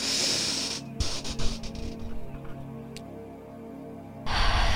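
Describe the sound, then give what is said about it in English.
A long, deep breath drawn in through the nose: a steady, airy hiss that swells, tapers off, then returns briefly at the end, fairly loud with no talking. “So just take like deep breath, like in through your nose.”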